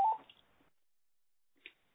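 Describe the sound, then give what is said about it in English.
A telephone rings with a short electronic trill during a meeting call held on speakerphone, then after a pause of over a second a second brief chirp sounds. The ring is fairly quiet and no one speaks. “So I beg your pardon, it always happens that the phone rings when you're on speaker.”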